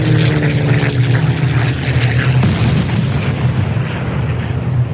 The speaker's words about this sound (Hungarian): Alacsonyan szállva megjelent 3 gép. A benszülöttek csodálkozva emelték fel a fejüket. 3 úszó árnyék homályosította el a csillagokat. Egy kisebb árnyék különvált, és sebesen rohant le a völgybe.